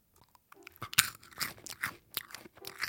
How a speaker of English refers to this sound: She reached her inked hand back into the biscuit jar on top of the piano and tossed one to Sharon. Sharon caught it in their mouth and immediately started to crunch it between their teeth.